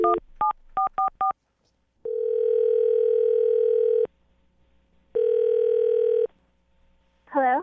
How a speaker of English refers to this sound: I'm going to call the phone number right now.